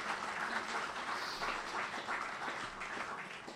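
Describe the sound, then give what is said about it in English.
Steady applause from an audience, a dense wash of many hands clapping at once, sustained at an even level throughout with no voices standing out. “Nobody's to represent the guys here tonight, but we think we need to give those guys a round of applause.”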